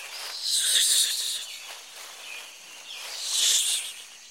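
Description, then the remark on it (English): A snake hisses in two long, breathy bursts, swelling and fading, with a quieter hiss lingering between them, moderately loud, with no voices, in an English textbook listening exercise on jungle animals. “A snake.”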